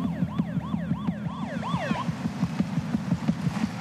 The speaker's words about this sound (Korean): 병원 바로 앞에서 소리를 멈춰버린 구급차.